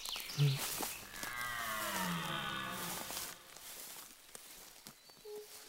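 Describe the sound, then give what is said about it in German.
A French horn, played by a woman practicing in a forest, sounds a sustained, brassy tone with slight pitch bends for about two seconds, fairly loud and resonant, then fades into quiet outdoor ambience. “Nein, das ist eine Waldhornistin. Sie übt hier regelmäßig.”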